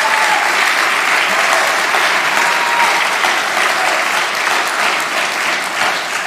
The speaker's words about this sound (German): Einen wunderschönen guten Morgen zusammen und ein herzliches guten Morgen auch an unseren Standort in Neckarsulm. Vielleicht können wir die mal mit einem ganz großen Applaus begrüßen.